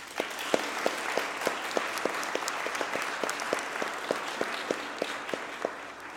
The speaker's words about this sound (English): A big round of applause from everyone for Team Jesus.